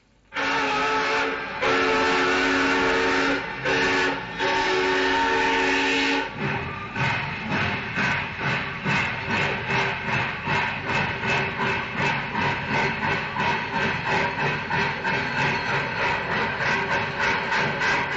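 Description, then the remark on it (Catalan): A steam train's whistle blows in long, loud blasts, then the engine starts chugging with a steady, rhythmic puffing as it pulls out of the station at Plaça Espanya, in the province of Barcelona. No one speaks. “Sortim de l'estació i que la màquina es posi en marxa.”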